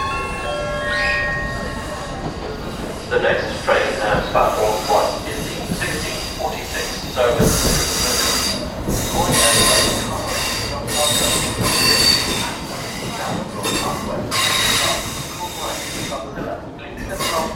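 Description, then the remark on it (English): A train in Dublin rolls along the rails with loud, steady rumbling and clattering, high metallic wheel squeals ringing out repeatedly over the noise, continuous throughout. “Recording the trains of Dublin are at my eye.”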